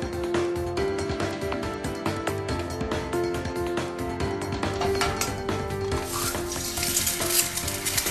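Steady sizzling of eggs frying in a hot pan, a continuous crackle and spatter that grows brighter and more intense toward the end, with no talking.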